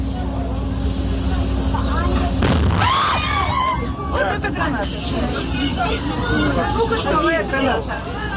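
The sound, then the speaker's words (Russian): A single sharp stun grenade blast bursts out over a noisy crowd of people inside a shop who cannot leave, followed by raised voices and continuing chatter and commotion. “Сука, шумовая граната. Дверь закрой.”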